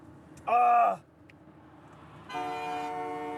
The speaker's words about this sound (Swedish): Vad tutar han för, tror du?